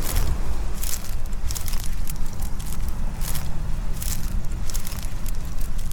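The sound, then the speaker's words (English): Dry, yellow-white grass stems crackle and snap underfoot in an irregular walking rhythm on a blustery morning, sharp crisp bursts over a steady low rumble of wind. No one speaks. “I can hear the wind rustling, the stems crackling beneath my feet, and the waves crashing on the beach.”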